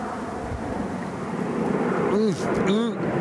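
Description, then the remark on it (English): A steady, broad roar of an airplane passing overhead in Toronto fills the whole clip, with two brief rising-and-falling tonal sounds near the end. “Okay, signing off with my last sip, last airplane heading over.”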